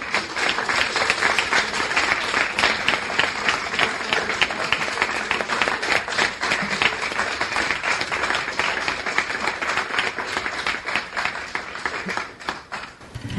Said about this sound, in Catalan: Un aplaudiment, no?